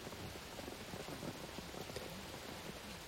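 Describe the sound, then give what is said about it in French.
Steady rain falls on pavement, a dense, continuous patter of drops with no pauses, moderately quiet, with no voices. “Les yeux comme un barrage brisé, je pleure sous la pluie, sur le trottoir, pour tout.”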